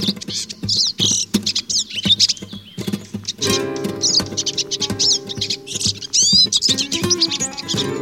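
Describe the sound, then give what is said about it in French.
A goldfinch sings a fast, continuous run of bright twittering chirps and trills, fairly loud, over a steady low tonal hum in the background. “Et c'est un oiseau qui est réputé pour son chant, particulièrement la sous-espèce qui s'appelle Cardulis parva, le chardonneret qui se trouve au Maghreb et en Espagne, Portugal, la zone géographique, voilà, plus le contour méditerranéen.”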